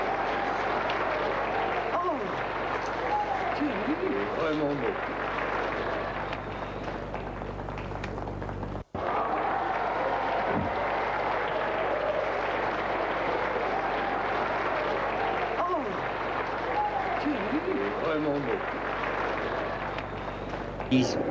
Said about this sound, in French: Voilà ce que j'avais à vous dire. on applaudit.